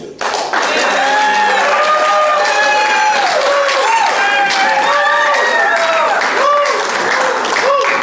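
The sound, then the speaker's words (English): An audience at an Al-Anon meeting applauds loudly and steadily for about eight seconds, a dense wash of clapping layered with rising and falling cheers and whoops from the crowd. “Applause”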